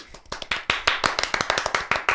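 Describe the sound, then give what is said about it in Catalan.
Brisk applause from a small group, a quick run of sharp, irregular hand claps that stays fairly steady throughout, with no voices. “I clar, tens un tarannà impressionant i de totes, totes, et mereixes de tot cor un fort aplaudiment.”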